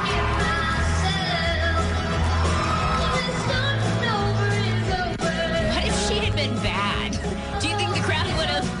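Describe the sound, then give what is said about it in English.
A concert crowd cheers and yells as a performer's child sings with him on stage, over loud, steady live music with singing and a deep bass, the noise staying dense and unbroken for the whole stretch. “The crowd loved it.”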